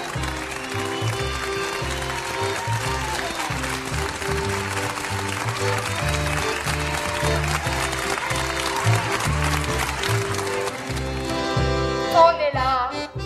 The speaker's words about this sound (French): Chaque soir à 20h, toute la France se met aux fenêtres pour vous applaudir. Vous remercier. Et vous soutenir.